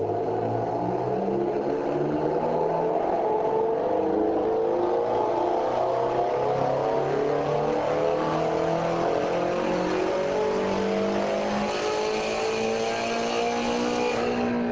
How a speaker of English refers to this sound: Using our analysis method, for example, it was possible to cleanly separate the gearbox rattle from the engine hum on the basis of the time scale of the granular energy. And I'd like to just play that engine sound.